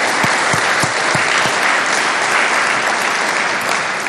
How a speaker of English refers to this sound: Let's give the people who made this all happen from this institution a big round of applause as well.